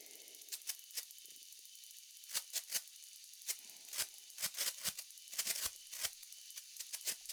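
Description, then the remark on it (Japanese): A sparkler firework crackles and spits with a fast, irregular burst of sharp little pops, fairly soft, with no voices. “綺麗ですね。パチパチって。”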